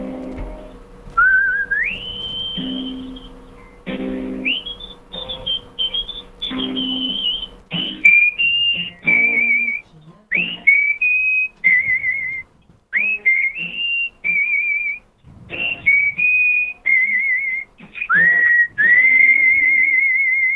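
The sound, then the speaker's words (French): A person whistles a lively theme tune alone, clear, with bright pitch glides and short phrases separated by brief pauses, over faint low background sounds. “… alias le siffleur, alors, le générique de Kitchenette. C'est parti.”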